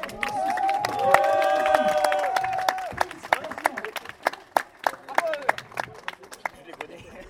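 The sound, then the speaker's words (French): A crowd at a quiz event breaks into applause for new arrivals with a loud, sustained cheer at the start, then scattered, uneven claps continue on their own as the whooping fades. “On a des nouveaux arrivants. Je veux qu'on les applaudisse.”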